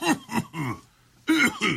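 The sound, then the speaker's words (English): A run of harsh, throaty coughs, three in quick succession, a short pause, then two more, loud with no talking. “Does that cough sound normal to you?”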